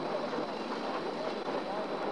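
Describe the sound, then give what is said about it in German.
A steady, continuous hiss of escaping air, broad and rushing, holding at an even level throughout with no breaks or pauses. “Hören Sie das Zischen austretender Luft?”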